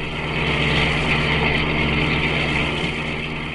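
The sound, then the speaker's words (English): A steady, continuous engine drone with a low rumbling hum as a car cruises at constant speed along the Kingville Turnpike on a crisp, clear late Saturday afternoon, fairly loud and unbroken throughout, with no voices. “It began late one Saturday afternoon as Denny and I were driving along the Kingville Turnpike.”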